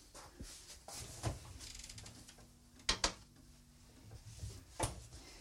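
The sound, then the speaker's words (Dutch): A refrigerator door is opened and shut, with a few solid clunks and a quick double thud, surrounded by soft rattling and handling noises, as cold butter is put into the fridge. No one speaks. “Dus dat zal ik zal het eventjes daar in de koelkast laten.”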